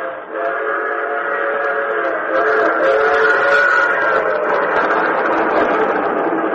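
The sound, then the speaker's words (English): The whistle of an express train, the Transcontinental Limited, travelling 80 miles an hour at night through moonlit countryside in America, wails in one long, sustained, loud blast, its layered tones holding steady and swelling slightly midway, with faint rumbling underneath and no voices. “Tonight in this America, the great barn shapes and solid shadows in the running sweep of moon-whitened countryside, the wailing whistle of the express.”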